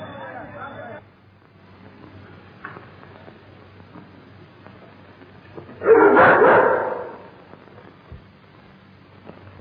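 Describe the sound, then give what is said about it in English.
In a film scene, Helen's frightened dog at Imhotep's house gives one loud, agitated burst of barking and yelping midway through, over a muffled background of indistinct murmuring voices. “Your dog is frightened.”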